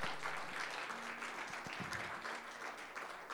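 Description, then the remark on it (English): An audience at Calvary church claps for its leadership in steady, dense applause, a continuous crackle of many hands that holds fairly even in loudness for a few seconds, with faint murmuring voices mixed in. “Let's clap for the leadership.”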